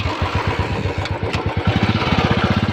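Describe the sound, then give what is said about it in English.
A Royal Enfield Bullet motorcycle engine, of the recently relaunched Indian-owned model, thumps steadily, its low, evenly spaced pulses quickening slightly as it runs, with a couple of brief higher clicks partway through. “That sound you're hearing belongs to the legendary bike, the Bullet.”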